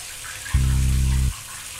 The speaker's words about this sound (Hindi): नल से अब पानी गिर तो रहा था, लेकिन ढेरों मीटर का जंग अपने आप में लेके गिर रहा था।